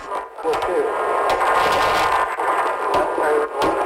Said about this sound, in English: In the end, ICE officials ended up smashing his window and pulling him out, which you can hear here on a crackly dashcam video.